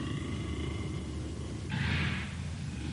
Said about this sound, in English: Did you ever hear a dog bark like that? The dogs of Sunday have been no ordinary dogs. Listen to that. Is that a dog? Anybody's dog?